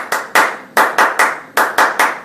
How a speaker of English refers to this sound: So clap, clap, clap, clap, clap, clap, clap, clap, clap, clap. Hey! We do that whole thing three times. And the hey gets louder every time.